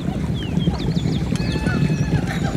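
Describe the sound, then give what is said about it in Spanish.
Two horses gallop, their hooves drumming in a fast, continuous rumble, while birds chirp and whistle faintly in the background. “Al poco aparecieron en la falda del monte unas nubes de humo que enseguida se transformaron en dos caballos al galope.”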